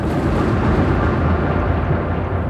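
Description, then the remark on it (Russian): A deep, continuous rumble of rolling thunder fills the whole moment, loud and steady with heavy low-end roar and no clear breaks, heard alone without any voices. “Жители наблюдали полярное сияние и слышали раскаты грома в феврале.”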